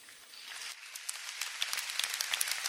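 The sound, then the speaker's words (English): A crowd of Florida Agricultural and Mechanical University (FAMU) students, professors, graduates, and trustees breaks into cheering and applause as the university's 11th president is presented, starting as a soft wash and swelling into dense, crackling clapping over a few seconds. “A crowd of FAMU students, professors, graduates, and trustees cheers as Trustee Chair Solomon Badger presents the university mace, a ceremonial staff decorated in school colors, to Elmira Mangum, signifying her acceptance of the position”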